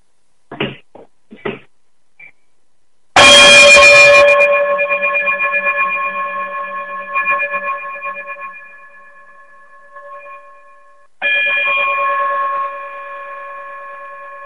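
sound effect, outro chime

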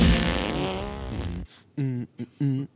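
human body sound, fart sound

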